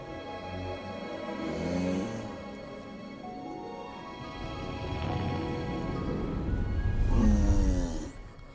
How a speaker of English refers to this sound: The sounds of snoring drift out through the open window of the attic bedroom.